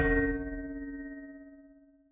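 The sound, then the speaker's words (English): A single bell strike rings out clearly, its bright metallic tones humming and slowly fading over a couple of seconds, with no voices present. “And I'm gonna ring the bell again.”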